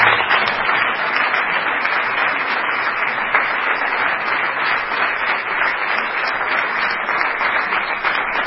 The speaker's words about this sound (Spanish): Así que nada, un aplauso de agradecimiento.